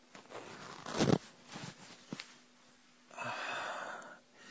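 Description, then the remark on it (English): Soft rustling of clothing with a couple of brief thumps as a person kneels up and takes off a top, followed by a steady raspy pants zipper being pulled down for about a second. No one speaks. “I kneel up, take my top off, and zip my pants down.”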